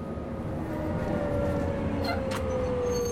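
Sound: bus arriving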